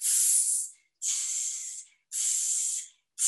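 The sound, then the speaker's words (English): A voice imitates a water pistol with three long, breathy "tsss" spray sounds in a steady rhythm, each bright and hissy, followed by the start of a fourth burst. “Okay, a water pistol.”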